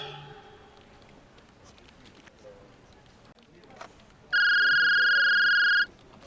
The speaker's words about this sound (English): No, the phone.